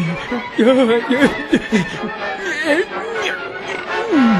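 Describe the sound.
A voice imitates a wolf with wavering, growly vocal sounds and playful snickers, several short bursts that rise and fall in pitch, ending in a drawn-out swooping cry.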